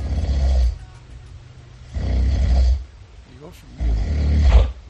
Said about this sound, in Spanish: Y el premio Amapola concluyó de madrugada con estos ronquidos.